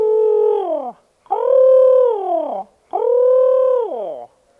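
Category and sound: bird, owl hooting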